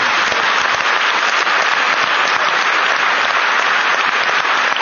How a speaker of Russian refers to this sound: Все цветы и аплодисменты сегодня.